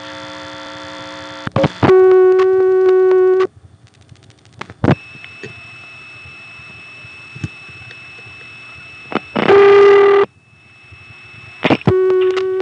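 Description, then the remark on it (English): Telephone line tones on an NX2 switch after a too-short hang-up: loud buzzy lockout tone bursts separated by clicks, then, after a flash, a steady, quieter hum of dial tone holding for several seconds before more sharp bursts return. No one speaks. “In an NX2, if you don't hang up quite long enough, you end up on lockout. Then if you flash, you get back to dial tone.”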